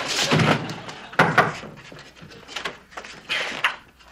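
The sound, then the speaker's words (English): A locked door is unlocked and opened: a sharp thunk and rattle, then a second knock of the latch and a soft scrape as it swings, with some heavy breathing in between. “What'd you have the door locked for?”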